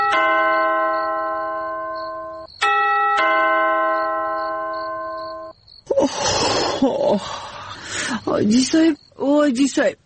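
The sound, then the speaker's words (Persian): A gate doorbell chimes loudly at night with a sustained, ringing tone, sounds twice in close succession, and fades out; afterward voices begin talking. “بخی تو که زنگ دروازه است، تو بیبی که کی هست دهی وقت شب؟”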